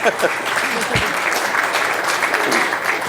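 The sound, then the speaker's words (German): An audience at a lecture applauds steadily, a dense, even wash of many hands clapping that holds at a fairly loud, constant level for the whole stretch. “Also ich glaube, das war ein Applaus wert.”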